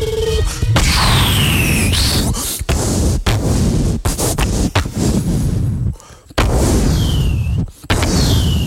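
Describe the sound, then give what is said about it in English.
Heavy booming blasts from a mighty cannon aimed from the open doors of a helicopter fire in rapid succession, loud, with sharp cracks, rumbling low end and whooshing streaks between shots, a dense barrage with only brief gaps. “A mighty cannon took aim.”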